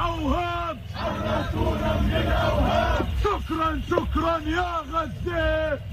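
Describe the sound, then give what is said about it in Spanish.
A crowd of Hamas militants chants loudly in unison at the gates of a prison, their voices rising and falling in a steady repeating rhythm with short phrases and brief pauses, over a constant background of crowd noise. “Las carreras, el sonido de los disparos y también los militantes de Hamas que cantaban a las puertas de la prisión.”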